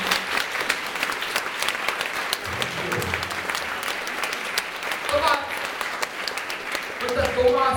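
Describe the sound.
Loud, sustained applause from an audience, a dense wash of clapping that runs steadily throughout, with brief bits of voices and murmuring surfacing beneath it toward the end.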